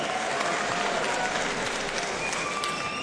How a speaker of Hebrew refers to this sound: אז קודם כל תודה רבה ומחיאות כפיים לכם, מגיע לכם.